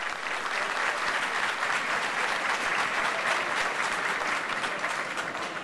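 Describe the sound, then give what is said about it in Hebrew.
Loud, sustained applause from a large audience at an evening gathering welcoming Rabbi Meir Mazuz, head of the yeshiva: a dense, steady wash of clapping that holds at full strength throughout with no voices rising above it. “ערב טוב לכולם, ערב טוב לקהל הנכבד, ערב טוב לכבוד הרב הגאון, רב הישיבה, הרב מאיר מזוז, שכולנו נקבל אותו בכמחיאות כפיים סוערות.”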